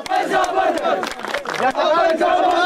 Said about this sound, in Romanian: Oficialitățile grecești spun că ciocnirile de astăzi dintre poliția macedoneană și migranții din tabăra de la Idomeni nu s-au soldat cu răniți, fiind de mai mică amploare decât cele petrecute în același loc duminică.